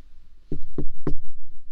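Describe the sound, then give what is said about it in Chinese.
Three firm knocks on a door, evenly spaced, with a dull low thud to each rap; no voices. “哎，好像是你妈妈在敲门，你怎么说呀？”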